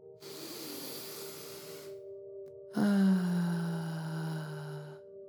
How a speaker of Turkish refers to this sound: Rahatlamak için güzel bir derin nefes al. Burnundan al, ağzından ver. Benim gibi.